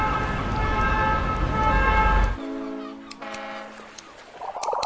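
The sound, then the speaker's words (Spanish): A loud, steady siren wails over heavy rumbling noise, then drops away abruptly, leaving a quieter sustained tone hanging in the background with a few faint clicks. “No sé si ho sabeu, que aquest és un barri de mariners, però també de sirenes.”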